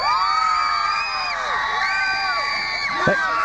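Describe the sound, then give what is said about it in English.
Baseball fans at a parade for the Twins, out with horns, ribbons, confetti, newspapers and toilet paper and waiting for the team, cheer loudly and without pause, a dense wall of overlapping high whoops and long, sliding yells that rise and fall in pitch. “And they're all out here with horns and ribbons and confetti and newspapers and toilet paper.”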